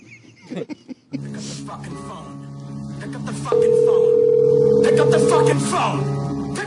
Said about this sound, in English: Pick up the fucking phone! I'm waiting. He's not going to answer the phone, is he? No way.